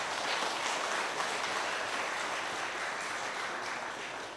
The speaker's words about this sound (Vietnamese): Như vậy là hãy tán dương mình một tràng pháo tay thật lớn.